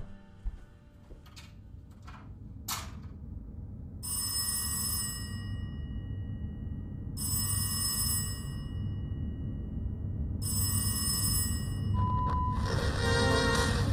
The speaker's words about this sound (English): I'd turn off the TV, maybe get a book and read, doze a little bit, and then the phone rings.